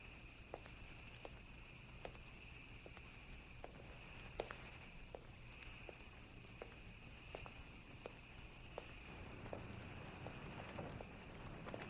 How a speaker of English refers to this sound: They turn their heads in the direction of the footsteps.